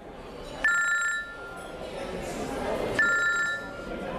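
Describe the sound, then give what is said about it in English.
A cell phone rings with two short electronic bursts about two seconds apart, clear over a low murmur of background noise. “Sorry, I must go now. I must take his call.”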